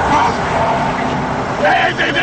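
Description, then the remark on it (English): A car brakes hard, almost ramming a Jeep, amid steady, dense traffic noise, with a brief brighter squeal near the end over a loud, continuous rumble of engines. “Brake lights flare as Riggs almost rams a Jeep, then looks for a gap in the traffic”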